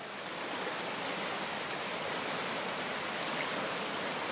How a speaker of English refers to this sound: The other half, I have to say though, as I'm crossing over the bridge, and you can just hear the water from the river.